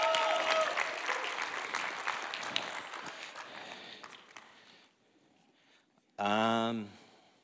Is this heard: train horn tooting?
no